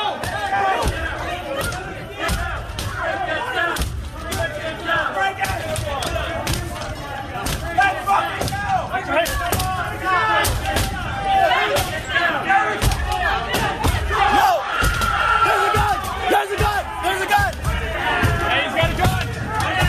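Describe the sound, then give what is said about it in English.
A loud mob of rioters shouts and yells continuously while repeated heavy bangs and thuds strike irregularly as they pound on a barricaded door trying to break through, with a few police officers on the other side; chaotic. “It takes place as the mob tries to break through a barricaded door.”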